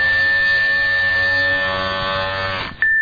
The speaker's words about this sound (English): And his razor's still on.